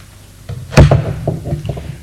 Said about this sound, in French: Le lendemain, il est réveillé par quelqu'un qui frappe à la porte.